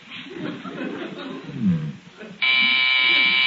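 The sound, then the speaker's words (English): Low murmuring voices and a chuckle give way to a loud, steady electric doorbell buzzer that cuts in abruptly and drones on unbroken for about a second. “would you mind answering the doorbell?”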